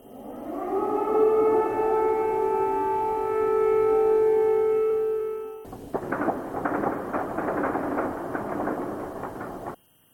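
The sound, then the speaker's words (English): An air raid siren in Kiev, Ukraine, in the morning rises and holds a steady, loud wail for several seconds, then abruptly gives way to a dense, rumbling wash of noise that continues until it cuts off. “In the capital, Kiev, residents woke up to air raid sirens this morning.”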